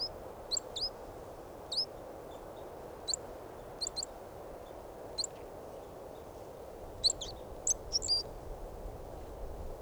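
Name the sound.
bird calls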